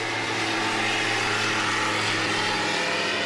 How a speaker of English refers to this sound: Then to the hinterland came the bush plain, carrying people and freight to places where no roads exist or men had ever seen.